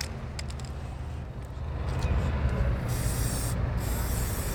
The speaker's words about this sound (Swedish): Ett litet moln av svart färg kommer ut ur sprayflaskan